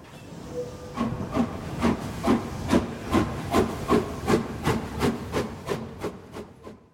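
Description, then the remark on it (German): A steam train rolls into Breslau main station around 13:30 with a steady series of rhythmic chuffs and hissing bursts, slowing slightly toward the end, with rumbling wheels underneath and no voices. “Endlich aber, so gegen 13.30 Uhr war es, rollte der Zug in Breslau auf dem Hauptbahnhof ein.”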